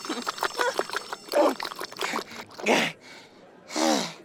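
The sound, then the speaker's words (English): Someone gulps down ice water after eating hot peppers, in quick, wet swallows with some sloshing, then pauses and lets out a couple of loud, breathy gasps. “Here, drink some ice water.”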